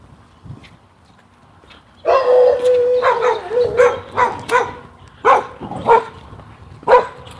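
A couple of dogs bark repeatedly after a quiet start, several loud sharp barks and yelps with a strained howling tone, coming in irregular bursts for about five seconds.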